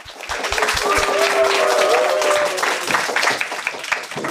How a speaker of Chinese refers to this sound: 我们也请到了几位我们的老朋友，掌声欢迎